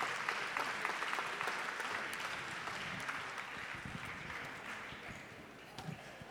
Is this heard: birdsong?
no